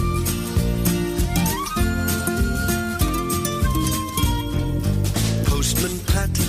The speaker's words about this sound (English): Which you've got to play the theme tune, haven't you?